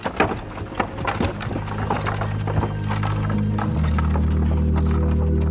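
Horse hooves clop in an irregular rhythm as the condemned man's horse-drawn cart rolls closer, over a steady low rumble that grows heavier and more constant toward the end.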